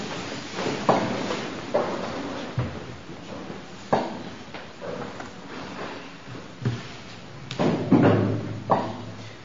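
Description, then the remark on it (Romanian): A door bangs shut repeatedly, a string of sharp, heavy thuds spread irregularly over several seconds, loud, with some rattling knocks between the main slams and no talking. “ușa care se trântește, roagă și pe frații tăi să nu mai facă.”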